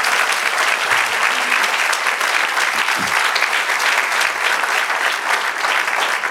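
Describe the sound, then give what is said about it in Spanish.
An audience breaks into sustained applause for the Lord, a dense, steady wash of many hands clapping at even loudness for several seconds, with a brief murmur of voices faintly beneath it. “Vamos a darle un aplauso al Señor para”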